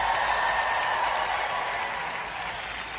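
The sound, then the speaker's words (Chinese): A large church audience cheers loudly to God and claps together in a dense, sustained roar of applause that holds steady for a few seconds, then eases slightly toward the end. No one speaks. “暂停一下， 向神大声欢呼吧。”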